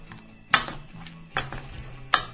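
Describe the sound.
A keyring of keys is struck against a tabletop three times at a slow, even pace, giving short bright metallic clinks meant to mimic coins (ducats) being set down on a table. There is no talking.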